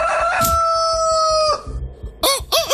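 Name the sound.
rooster crowing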